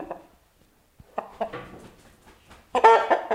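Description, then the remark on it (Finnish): A rooster named Väinö at the Tuulispää stable clucks in a series of short, throaty bursts that build to a louder, harsher outburst at the end, with no talking. “Väinö on kukko. Ihan sairaan komea.”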